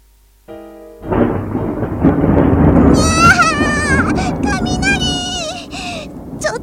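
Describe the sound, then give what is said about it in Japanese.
A brief tone gives way to a loud, sustained rolling rumble of thunder lasting several seconds, with high wavering, bleat-like cries rising over the rumble partway through. “最近雷多いよ。マジでほんと勘弁してよ。あんなにゴロゴロ鳴ってさ、まったく何がしたいわけ。”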